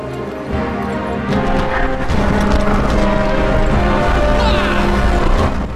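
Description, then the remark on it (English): Horses ridden two per horse gallop swiftly over a hollow wooden moat bridge towards a line of archers, hooves clattering in a fast, busy rhythm, loud, amid a dense wash of rumbling and crashing noise. “Riding two per horse, Robin, Mutch, Will and Alan gallop swiftly over the moat bridge towards the line of archers.”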